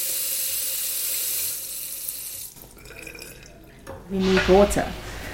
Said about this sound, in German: Dann mischen wir es in einem Eimer mit kaltem Wasser, um die Haare der Kunden auszuspülen.